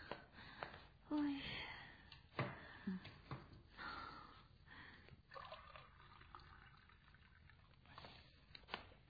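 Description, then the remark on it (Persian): Cold water from the fridge is poured into a glass, soft, with short irregular splashes and light handling clatter. “آب خنک یخچال داریم؟ آره بذار الان بهت میدم.”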